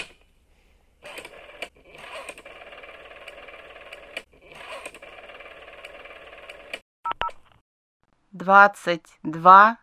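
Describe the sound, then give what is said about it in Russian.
A telephone line buzzes through several long electronic tone bursts, then two short beeps as the number 100 is dialed for the time service, followed by a clear woman's voice speaking over the phone announcing the time. “Я повесил трубку. Надо подождать. И набрать сотню.”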